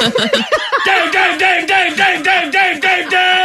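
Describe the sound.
A voice imitates a car horn, yelling a string of about eight loud, nasal, honking bursts in a quick, steady rhythm after some brief jumbled vocal sounds at the start.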